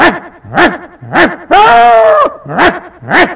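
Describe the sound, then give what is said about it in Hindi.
A voice imitates a yelping dog that has been hit with a stone and runs away: three sharp, rising-and-falling yelps, a longer drawn-out whine, then two more yelps, loud with no words. “उसको गुस्सा आया, ये गा रहा है कुत्ते की आवाज निकल रहा, बाजू से पत्थर लिया मारा, कुत्ता मार खा के भागता है, उस समय की आवाज सुनाई देती है, ये भी इससे छोड़ के वैसे ही भाग रहे हैं,”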